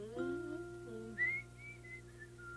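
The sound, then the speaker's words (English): A person whistles a short run of four or five clear, high notes, moderately loud, following a brief lower tone at the start. “Wink a wink, whistle, and blow.”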